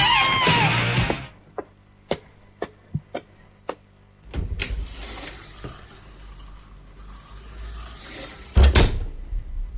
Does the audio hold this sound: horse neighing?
no